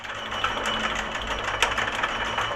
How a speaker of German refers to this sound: Oder man hört aus den 8 im Kreis angebrachten Lautsprechern dröhnende Landmaschinen oder Rhythmen aus Abfallanlagen und vom Schlachthof. Der dumpfe Puls der Lebensmittelindustrie.